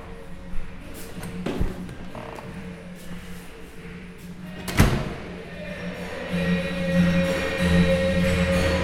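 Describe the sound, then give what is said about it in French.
At 20:32, the door of a community centre on avenue Père Marquette in Québec is pushed open with a couple of dull thumps and a brief rattle, followed by a low steady hum and muffled background noise from inside. “Il est 20h32 minutes et je m'apprête à pousser la porte d'un centre communautaire situé sur l'avenue Père Marquette à Québec.”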